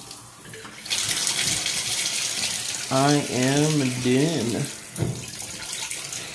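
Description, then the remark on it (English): Steady hiss of shower water running throughout, a broad constant wash of noise, with a man's voice speaking briefly over it midway. “But I'm about to get out the shower.”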